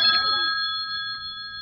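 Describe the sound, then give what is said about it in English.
The telephone at Grandpappy Sparks Hobby Shop rings with a bright, sustained metallic tone that holds steady and slowly fades, with no voices present. “That's my telephone you hear ringing.”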